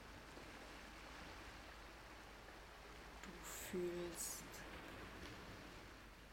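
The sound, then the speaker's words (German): A steady, soft wash of ocean surf rushing on a beach fills the background, continuous, while a voice speaks briefly over it partway through. “Du hörst das Meer rauschen.”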